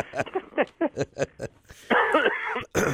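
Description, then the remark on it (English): A loud, rasping cough bursts out after a few short voiced sounds, then breaks off briefly before another harsh burst follows. “we'll cough together through the whole show.”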